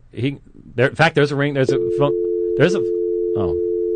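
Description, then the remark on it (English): A steady, unbroken telephone dial tone from an open call-in phone line hums at moderate loudness for the last two seconds, after a man talks briefly; a few more spoken words come in over the tone. “And by the way, the phones are open, right?”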